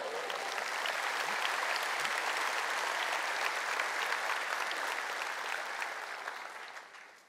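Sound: audience clapping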